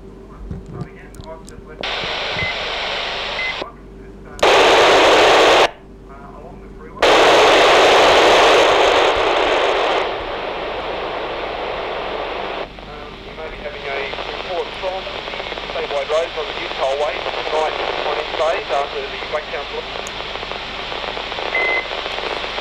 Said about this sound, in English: That time, I think there's a lot of static out on the two-way today, but I'll just turn that down now.